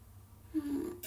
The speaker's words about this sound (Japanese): あ、おなら出ちゃった。